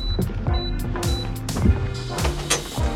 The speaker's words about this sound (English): And now, a broken printer. What was the point of having a personal printer in his office if it didn't even work half the time?